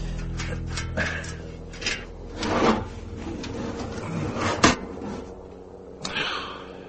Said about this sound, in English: I got a stepladder and removed the plastic housing covering the control unit for the door opener.